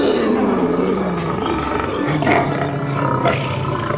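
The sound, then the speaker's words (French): A lion roars loudly, a deep rumbling growl that swells and sustains across several seconds with rough, throaty bursts, heard on its own without speech. “Les lions gardiens du zoo.”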